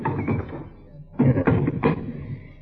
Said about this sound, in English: Now, we just open the door, Marshal, and maybe he'll come out.